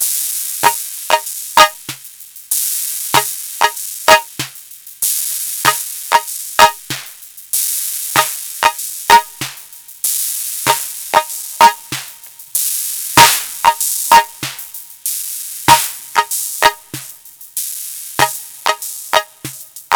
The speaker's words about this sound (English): And here's the hand clap sound on its own, without an external signal. And here it is with the DX7.